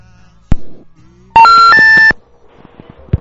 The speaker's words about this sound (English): And the toll-free line will be up and available shortly. And there it is ringing anyway.